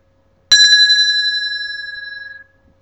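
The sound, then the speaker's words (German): A bicycle bell rings once with a bright metallic trill, then its high clear tone rings on and fades away over about two seconds. No voices are heard. “Wer klingelt da?”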